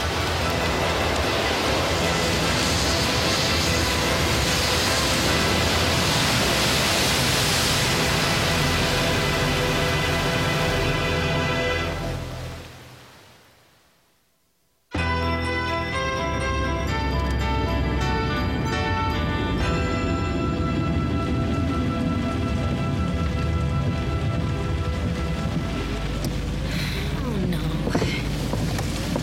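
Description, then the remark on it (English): Heavy rain and the rushing flood water of a rising creek roar loudly and steadily, fade to near silence around the middle, then burst back in just as loud and continue to the end. “I figured he'd double back when the rain got harder and the creek started to rise.”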